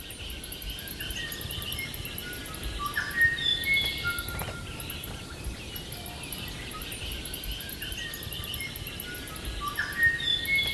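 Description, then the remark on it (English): A thin, high-pitched squeaking bird call repeats a few times, fairly faint, amid a busy chorus of other birds in the background and a steady buzz of insects. No one speaks. “With all the birds in the background, it could be tricky to hear it, but if you listen carefully, you will notice that high-pitched squeak.”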